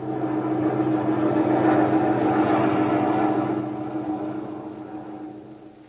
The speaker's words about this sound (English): There's a lone unidentified plane over your area.